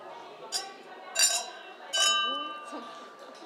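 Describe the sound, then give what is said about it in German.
Glasses clink together in a toast, three bright ringing chimes about a second apart, each leaving a sustained shimmering tone that fades slowly, with faint background murmur. “Und da will ich erst mal mit Ihnen anstoßen.”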